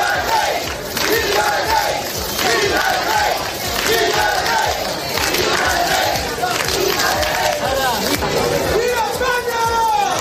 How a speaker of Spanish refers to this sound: Bueno, pues este es el recibimiento con gritos de ¡Viva el Rey y Viva España! Que decenas, cientos de personas le dieron a don Juan Carlos en el Club Náutico de Sanxenxo.